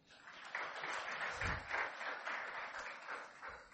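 A crowd at a sermon claps their hands together for a few seconds, a dense, steady patter of many hands that holds at an even loudness throughout, with no talking over it.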